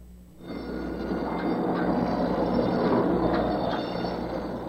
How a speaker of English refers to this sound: That bell is a signal to get out of the way. 200 tons are on the move and in your direction. This is what they call a gantry crane. It's set on extra heavy railroad tracks. Has a carrying capacity of 65 tons.